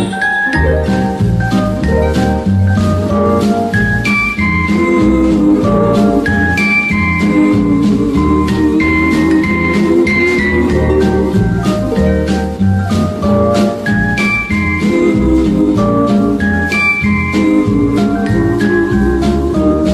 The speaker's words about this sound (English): Sleigh bells jingling, jing, jing, jingling, Santa's on his way.